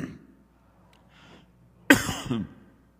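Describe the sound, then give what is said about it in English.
A single sharp cough bursts out loudly during a spoken prayer, trailing into a short rough second hack, after a quiet stretch with a few faint breaths or murmurs. “I don't usually cough my way through a prayer.”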